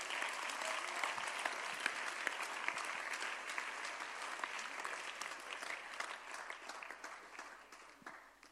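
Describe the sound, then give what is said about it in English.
An audience claps together in a dense, steady burst of applause lasting several seconds before gradually thinning and softening toward the end. “And if you are clapping, clap well.”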